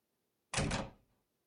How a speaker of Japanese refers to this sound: あ、ドア開けないと。